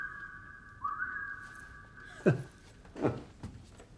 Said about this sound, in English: What is this? It's a communication device. Really? You speak into the holes and a series of pipes travel the sound to the desired room. He whistles in a hole labeled dining room.